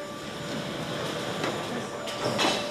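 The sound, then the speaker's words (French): A vehicle lift raises a car so its bodywork can be checked for corrosion and perforation, with a steady motorized drone and a thin whining tone, broken by a couple of brief hissing bursts toward the end. “Alors ensuite, on va lever le véhicule.”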